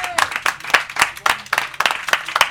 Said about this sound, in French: Écoute, avant d'aller plus loin, j'aimerais quand même, la transition s'est faite, mais j'aimerais quand même qu'on donne une vraie grosse main d'applaudissement au travail de remplaçant